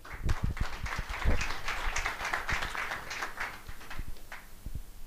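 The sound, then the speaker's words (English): An audience applauds to welcome guest speakers in a steady round of clapping, a dense wash of many hands at moderate volume lasting several seconds with a few sharper individual claps standing out. “So guys, very welcome, and please give them a round of applause.”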